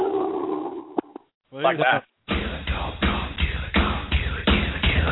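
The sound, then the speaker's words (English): A man imitates death metal growling vocals: a few harsh, guttural roars broken by short pauses, then a sustained run of loud, raspy growls pulsing in a steady rhythm. “I don't know any songs, but I only know the growling.”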